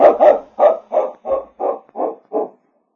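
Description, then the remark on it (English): A tracking dog named King, following a scent taken from a piece of cloth across rocks with no tracks, barks eight times in a steady, evenly spaced rhythm, each bark loud, mid-pitched and slightly baying, with no voices or other sounds between them. “King can follow their scent without tracks.”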